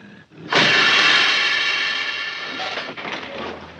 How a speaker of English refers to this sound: But turns out to be a city bus, slamming on its brakes.